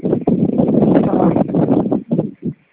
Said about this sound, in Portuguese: Está uma ventania danada.